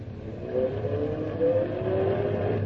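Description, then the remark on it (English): A car engine revs and accelerates, its pitch climbing in steady upward sweeps over a constant low rumble, fairly loud with no voices. “See? The car's working better now.”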